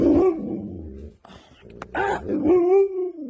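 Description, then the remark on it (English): A dog lets out drawn-out, warbling whining howls, rising and falling in pitch with a brief pause midway, loud and throaty like a growly moan. “She says Manson sounds a little bit like Chewbacca from Star Wars. He's very, very talkative. He yells at me constantly.”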